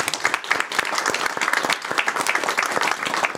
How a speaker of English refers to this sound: thank you for all your work, and a good applause for her.